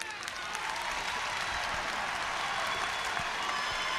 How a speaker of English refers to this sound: The crowd now rising to applaud Nelson Mandela as he makes his way back to his chair.